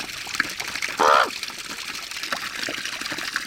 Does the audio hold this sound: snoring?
no